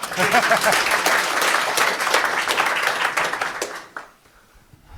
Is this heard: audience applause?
yes